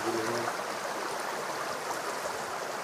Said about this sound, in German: Wie man sieht, hier in dem Bachbett liegen viele dicke Steine